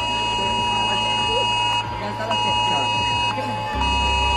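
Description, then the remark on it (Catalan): Emergency alert alarms blare together in a steady, piercing electronic tone that holds without pause at evening gatherings in the Valencian Country, Spain, with a murmuring crowd and scattered voices audible underneath. “El de les alarmes que han sonat a les concentracions d'aquest vespre al País Valencià i que molts consideren que es van activar quan ja era massa tard.”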